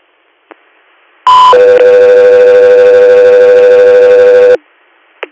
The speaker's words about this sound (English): 3 Air, stand by for tones.